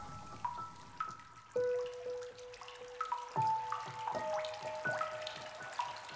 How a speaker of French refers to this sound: Il pleuvote.